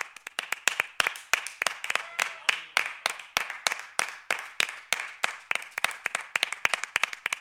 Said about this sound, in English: That's fucking Bam Margera, baby. Bam Margera's in the house. All right, everyone's gonna round of applause for Bam.